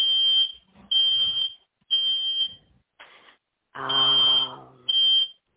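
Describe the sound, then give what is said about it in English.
A loud, piercing fire alarm goes off in a house, beeping in repeated bursts of about half a second, six in a row, with an indistinct voice briefly audible beneath one of the tones. “I have a fire alarm going off at my house.”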